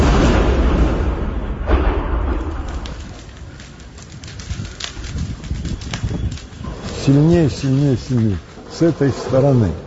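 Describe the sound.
A heavy, booming explosion from a Russian Shahed drone strike in Kyiv, Ukraine, throwing a car into the air, opens with deep rumbling that lingers for a couple of seconds, then fades into a noisy background as voices begin talking near the end.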